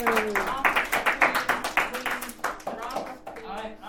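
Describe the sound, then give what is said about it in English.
Steady clapping from a small group fills the whole moment, brisk and rhythmic, while people talk and laugh over it before it begins to thin out near the end, applauding a correct quiz answer. “Give a round of applause, everyone.”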